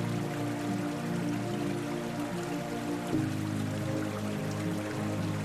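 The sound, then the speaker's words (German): Steady, continuous rushing of a stream, a dense watery wash with faint trickling detail, constant in level from start to end with no voices. “Nur das Rauschen des Wassers und das Gefühl, dass die Welt genau jetzt perfekt ist.”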